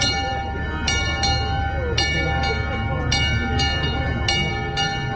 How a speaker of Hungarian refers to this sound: és akkor én ezt felajánlottam, az, hogy ezt tegyük fel erre a kis székelykapura emlékműre, és ezt húzzuk meg ma is a trianoni aláírás órájában vagy momentumában, amelyre mindannyian fájdalomban emlékezünk. Most szólal meg ez a kis harang.